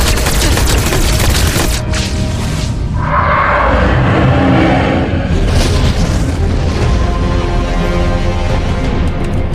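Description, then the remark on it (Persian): Heavy, continuous barrage of booming blasts and weapon fire, loud and dense throughout, with rumbling low end and crackling bursts layered over one another and no pauses. “پس شلیک کنید.”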